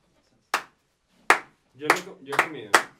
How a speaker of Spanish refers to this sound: No, vamos a aplicar el truco de aplauso lento.